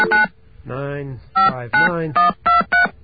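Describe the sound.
Touch-tone keypad beeps dialing a number: about six short, loud tone bursts in a quick, slightly uneven rhythm, with a brief stretch of voice between the first beep and the rest.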